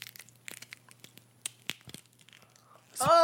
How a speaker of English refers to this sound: So I'm holding the cookie up to the mic and we're gonna see if it crunches. See if I can hear you. There's gonna be chocolate all over the mic.